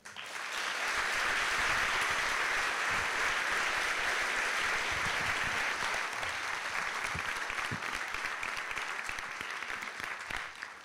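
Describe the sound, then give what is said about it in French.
A crowd at a special Halloween storytelling evening applauds steadily for about ten seconds, a dense, even wash of clapping that swells quickly and holds at a strong level before tapering slightly at the end. No one speaks. “Merci d'applaudir”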